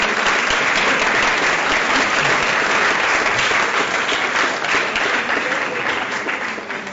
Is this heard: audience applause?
yes